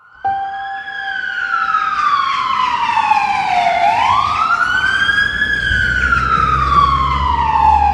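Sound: ambulance siren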